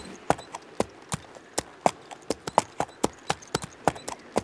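Horses' hooves clip-clop in a steady, brisk rhythm, each sharp knock ringing out clearly over a faint background, like several horses walking together.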